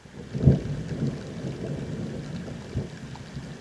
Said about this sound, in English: I collaborated with him on a project where I actually was able to broadcast 4 consecutive months of sound coming from beneath the Arctic Ocean. And every time another glacier would calve, it would sound like thunder.